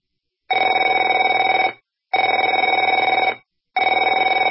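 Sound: telephone ringing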